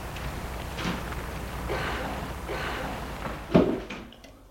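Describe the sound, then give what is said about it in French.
A building's entrance door lock, released after a call on the intercom, clicks open with a sharp, fairly loud mechanical snap, preceded by a few soft rustling handling sounds, then a brief fading rattle. “Ils entendent le clic de la porte d'entrée.”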